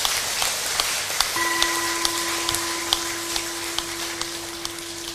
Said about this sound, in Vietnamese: Nếu các bạn nhận thấy lời dạy về sự trải nghiệm hạnh phúc của Đức Phật là thiết thực và đáng thực hiện, hãy cho một tràng vỗ tay thật lớn để cam kết.